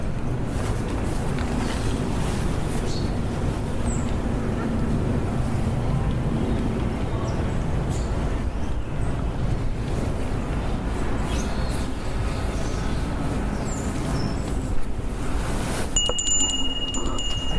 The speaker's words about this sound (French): Nous vous laissons profiter du son du jardin des plantes. en hiver et à bientôt. Vous avez un petit peu, écoutez ce qui vous entoure, essayez de ressentir un petit peu le jardin.